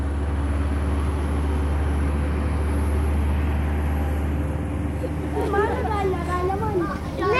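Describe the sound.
A car engine drones steadily from inside the vehicle while driving on mountain roads in Ethiopia, a constant low rumble with road noise, and voices rise over it near the end.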